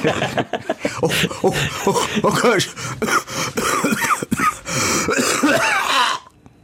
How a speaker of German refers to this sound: Stell mir nichts Schönes vor, als einen Podcast zu hören und dann so richtig schön einen ins Ohr gehustet zu bekommen.